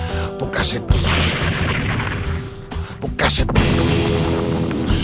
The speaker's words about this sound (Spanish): La explosión se oyó en todo Texas. Era el comienzo de una gran gesta. Pues una chispa pilló una tubería de esas subterráneas de gas homicida que explotó bajo una refinería de esas petrolíferas nuclearizadas.